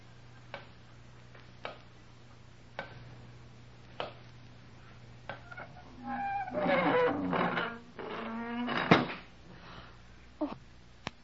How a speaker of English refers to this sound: Oh, someone's closed the door. We're locked in.